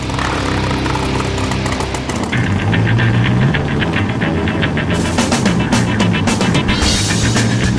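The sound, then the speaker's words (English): A chopper trike's motor runs loud and steady, a deep rumble that shifts after about two seconds into a rapid, pulsing throb, with a brighter rattling edge in the later seconds. “The motor sounds great, the paint really pops, and it looks like a badass chopper trike.”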